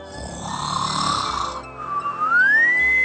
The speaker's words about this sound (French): La vieille dame s'était mise à l'ombre, comme d'habitude, et comme d'habitude, elle ronflait.